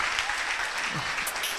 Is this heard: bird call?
no